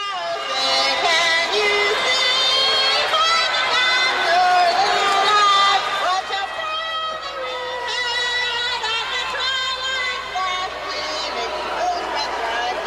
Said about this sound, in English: As you can tell, the crowd was booing her, even. But at least she was screaming it. But the tone was fairly close. I mean, it was very fast and all that.